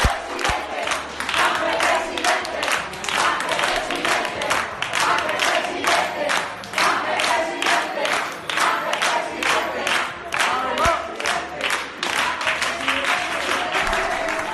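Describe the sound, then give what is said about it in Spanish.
A crowd of PSOE party officials cheers and chants loudly and continuously for García Page on election night, with bursts of applause and rhythmic shouting for the whole stretch. “Son los propios compañeros de García Page, no son simpatizantes, sino los propios responsables políticos del PSOE los que vitoreaban a García Page.”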